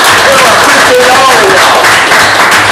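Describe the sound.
An audience breaks into loud, sustained applause, a dense wash of clapping that continues steadily throughout, with a few brief cheering voices rising above it.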